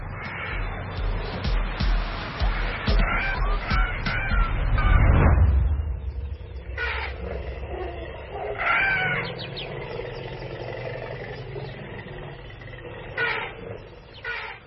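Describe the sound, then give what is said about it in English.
Steady low traffic rumble on a busy city street near Fuller Park, about a kilometre east of Ellis Park, on former marshland, with one vehicle swelling loudly as it passes by, while birds call and caw intermittently over the noise. “This was once marshes and wetland, where you now hear the wail of alarms and the thumping beats of ikom from passing cars.”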